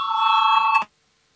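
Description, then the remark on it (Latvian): A parliamentary voting bell in the Latvian Saeima rings loudly in one steady, unbroken electric peal for under a second, calling a vote on Justice Minister Jānis Bordāns's proposal, then cuts off abruptly into silence. “Lūdzu, zvanu balsosim par trešo tieslietu ministra Bordāna priekšlikumu.”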